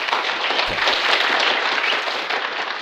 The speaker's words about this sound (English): All right, first up, do we have an applause drop or anything like that?